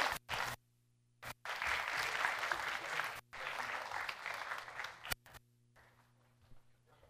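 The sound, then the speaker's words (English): An audience at Westwood church breaks into applause to welcome a new pastor, a dense sustained clatter of many hands clapping for several seconds, briefly pausing and swelling again before fading into scattered claps and quiet room noise. “So I'm going to welcome our elders, pastors up onto the stage here to extend the right hand of fellowship, welcome me into the church, and you guys can extend welcome by applauding.”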